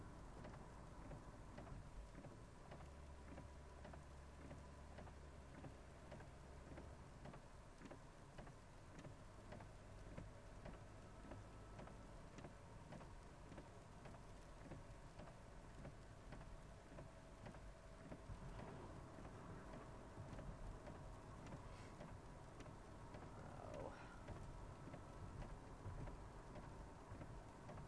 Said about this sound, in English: It doesn't sound like rain, Morgan. It sounds like sleet.